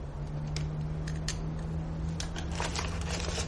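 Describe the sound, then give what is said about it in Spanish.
Someone opens a drawer and rummages through papers inside it, with a scattered series of soft rustles, crinkles and small clicks over a low, steady electrical hum. “Abre un cajón, descubre las gafas de Rami y revisa algunos papeles que hay en el interior.”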